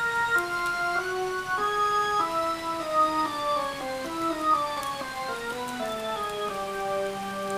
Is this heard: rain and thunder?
yes